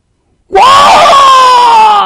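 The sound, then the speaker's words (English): A loud, sustained, high-pitched shriek bursts in after a brief silence and holds steady for over a second, a human voice imitating the piercing cry of an eagle. “He said it's a shriek.”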